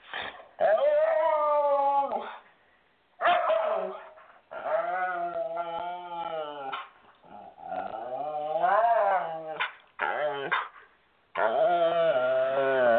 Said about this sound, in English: Hold, please. There is a dog here. Hold, please.